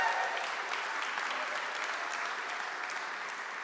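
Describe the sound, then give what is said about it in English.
A crowd applauds steadily with dense, even clapping for several seconds, giving a cheer for the man who did the branding, a faint cheer or two mixed in, with no one speaking over it. “Give him a big cheer there.”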